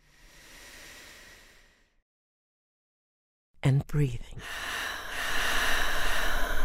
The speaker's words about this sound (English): And breathing.